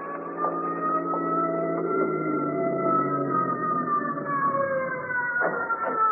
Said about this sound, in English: I walked outside the emergency room door to await the ambulance. As I heard it approach, a car pulled up to the door.